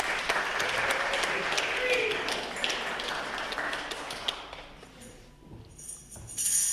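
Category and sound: crowd, audience applauding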